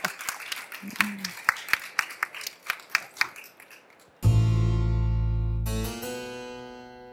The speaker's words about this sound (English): We have an enormous round of applause.